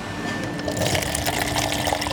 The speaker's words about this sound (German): Jetzt habe ich zwei Gläser und wir werden zapfen. Juhu!